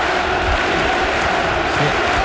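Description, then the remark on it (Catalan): A huge crowd of football fans chanting and shouting together at Camp Nou stadium, a dense, loud, steady roar of many voices with no single voice standing out. “Sentim els aficionats, ja veuràs.”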